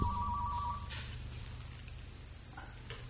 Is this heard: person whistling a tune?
no